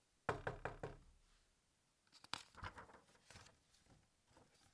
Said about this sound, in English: Soon after, she came to a large forest. in the middle of which stood the wizard's house. She knocked at the door.